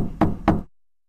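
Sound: knocking on a door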